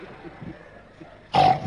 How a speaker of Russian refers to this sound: Вот такие звуки. Там как бы хрюк и пост-хрюк. Хрюк и пост-хрюк. Это два раза.